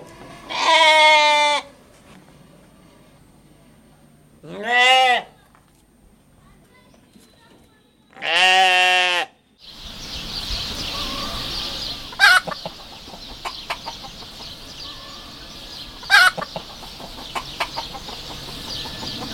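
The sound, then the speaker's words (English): Farm animal calls: three loud, strained bleats or crows with pauses between them, followed by a steady hissing background scattered with faint clicks and knocks. “For that, we take you to 10 uninterrupted minutes of farm sounds.”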